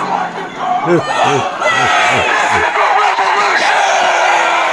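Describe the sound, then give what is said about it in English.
A large crowd at a Birds Aren't Real rally in Springfield, Missouri, United States, cheers and chants in unison, a loud, continuous roar of voices with repeated rising-and-falling shouted calls rolling through it. “Back over in the United States in Springfield, Missouri, we had the big rally for birds aren't real.”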